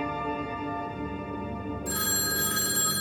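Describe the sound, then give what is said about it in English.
Governor Rockefeller's telephone rings steadily with a bright, continuous electronic tone, fairly loud, becoming brighter and fuller partway through; no one speaks. “Rockefeller is staring out the window when his phone rings.”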